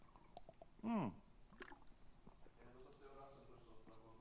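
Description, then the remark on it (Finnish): Someone takes a small sip of water: soft wet clicks and gulping swallows, with a brief louder squeaky, voiced sound near the start and a faint murmur behind. “Mä otan pienen hörpyn vettä, kun mennään äänikarata, niin lukekaa tämä koodia sillä aikaa.”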